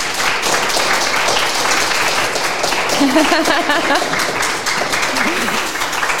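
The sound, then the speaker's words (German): A live festival audience applauds steadily for several seconds after a talk on feminist activism, a dense, even wash of many hands clapping at constant loudness, with a few voices calling out briefly partway through. “Ein Applaus bitte.”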